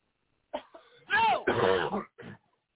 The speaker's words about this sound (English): Get out. Cough it out. Cough it out. Get out. Go.